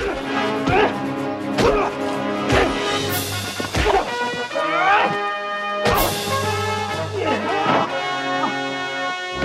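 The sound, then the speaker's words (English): On a film set, a loud crash as a man playing a cowboy is thrown through the glass front of a bar, followed by a series of hard punching thwacks at an uneven pace as two men slug it out, with voices and other busy sound running underneath. “as a cowboy is thrown through the glass front of a bar. A shady Mexican comes looking for the cowboy and they slug it out.”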